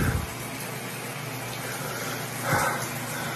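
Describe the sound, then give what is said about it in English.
A shower runs steadily in a bathroom, a constant hiss of falling water at moderate volume, with a brief surge or splash partway through. No voices are heard. “He's got the shower running and he's crying and he's screaming.”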